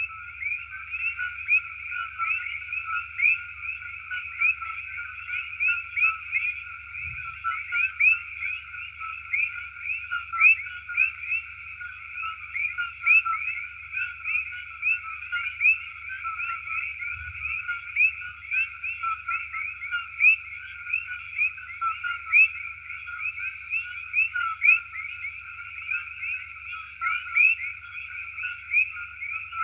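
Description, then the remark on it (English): A dense, continuous chorus of coqui frogs, with high, shrill calls overlapping steadily throughout and a faint low rumble underneath; no voices. “Here are the Koki frogs.”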